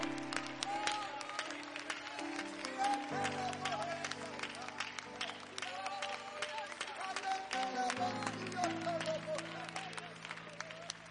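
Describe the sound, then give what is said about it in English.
An audience at an Apostolic Pentecostal Church service claps hands to the Lord continuously in a dense, steady rhythm while voices shout and cry out in praise, all over sustained music chords that shift a few times; loud throughout. “Come on, let's do that some more. Would you clap your hands some more?”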